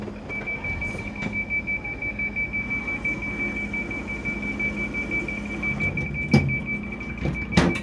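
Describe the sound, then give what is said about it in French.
A train's door-closing warning, announcing that the doors are closing and departure is imminent, sounds as a steady, high-pitched electronic tone held throughout, over a low mechanical rumble, with a couple of sharp clunks near the end. “Attention à la fermeture des portes. Le départ est imminent.”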